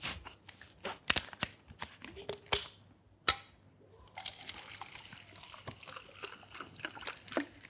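Liquid pours and splashes, with a quick run of irregular splatters and drips, then a steadier, fizzy trickling wash. No one speaks.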